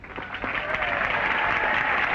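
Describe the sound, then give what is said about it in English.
Steady audience applause for a speech advocating repeal of the 18th Amendment, a dense wash of clapping hands at an even, moderate level throughout, without cheers or voices standing out. “Robert, when I hear that, I keep thinking that the applause sounds perfunctory.”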